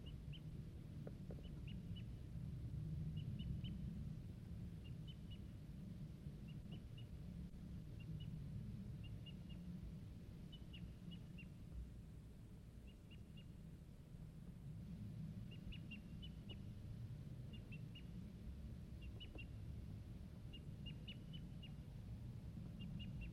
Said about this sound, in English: I see, still see the wild bird. He's tooping now from a treetop, far off, about 100 yards.